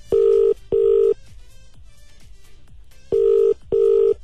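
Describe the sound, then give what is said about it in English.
A phone ringback tone on an outgoing call that goes unanswered: two pairs of steady, mid-pitched double rings separated by a long pause, loud and alone with no voices. “Pick up the phone.”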